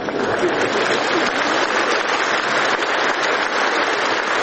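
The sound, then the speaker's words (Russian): An audience applauds steadily, a dense and even wash of many hands clapping at a loud, constant level throughout, with no voices standing out. “У этих аплодисментов глубокий исторический смысл.”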